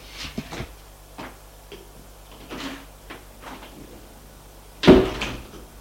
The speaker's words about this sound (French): La porte s'ouvre.